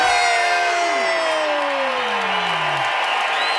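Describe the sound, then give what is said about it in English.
A crowd cheers loudly and steadily after chanting "one more sleep" three times, a dense wash of voices with several rising and falling whoops and shouts riding on top, sustained without a break. “we just chant the words one more sleep three times and we cheer”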